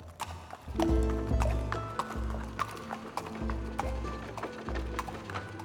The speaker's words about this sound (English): In the summer of 1828, 36-year-old William Burke and his friend William Hare led a horse across Edinburgh. But just as the pair reached a crowded part of town, the horse skidded to a stop.